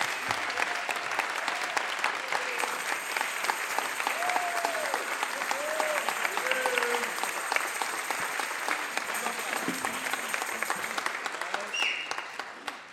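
A crowd at Holden Village applauds steadily for about thirteen seconds to welcome the Shades of Praise and Jubilee Singers choirs from St. Therese Catholic Church in Seattle, a dense, even wash of clapping with a few faint voices and whoops mixed in before it tapers off at the end.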